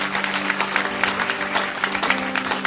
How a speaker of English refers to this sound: For any of you who have prayed that prayer for the first time, we're going to give you a warm round of applause. Praise God.